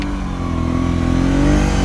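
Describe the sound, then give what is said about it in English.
A four-wheeler engine revs steadily, its low mechanical drone rising gradually in pitch as it accelerates, loud and continuous with no voices. “No, we're just some rednecks on a four-wheeler helping people out.”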